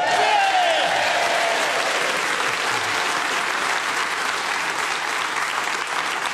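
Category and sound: crowd, studio audience applause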